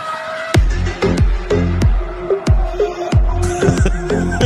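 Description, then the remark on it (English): A car drifting on a street: a loud engine revs hard in rapid bursts, with sharp pops and falling pitch sweeps about every half second, over a steady high squeal. “Did we find the drifting?”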